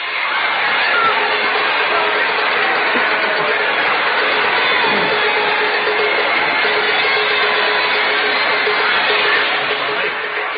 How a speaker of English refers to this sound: We'd like to have you listen to the crowd right now.